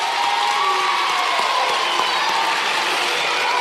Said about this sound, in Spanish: Un aplauso para eles catro.